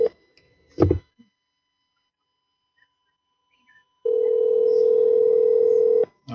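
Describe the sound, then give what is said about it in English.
The ringback tone of a call to a cell phone in Japan sounds once, a steady, buzzy two-second burst after a stretch of quiet, preceded by a brief handset click. Nobody speaks. “He's in Japan this week, and it's, like, weird. It rings weird.”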